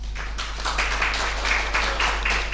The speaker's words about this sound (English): So if we could have a round of applause for these guys, that would be really great.